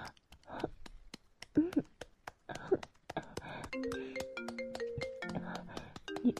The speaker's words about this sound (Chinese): 你爸爸来电话了，不要接，求你了，别接。